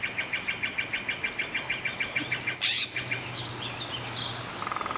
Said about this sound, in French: C'est enregistré en 2014, 3 ans donc avant l'incendie. On va écouter tout de suite cet extrait. Et on entend une forêt très bruyante, là aussi. Hein. Très sonore, on entend une kyrielle d'oiseaux